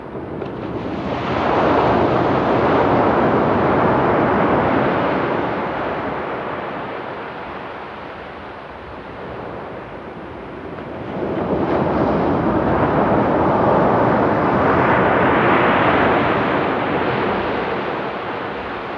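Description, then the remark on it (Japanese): Calm, gentle ocean waves wash onto a sandy shore restored by disaster-recovery construction, in slow swells, two broad rushes of surf rising and fading with a soft, steady hiss between them, no voices present. “とても穏やかでゆったりとしたこの波は、いいことも悪いこともすべて受け入れている、そんな音にさえ聞こえます。”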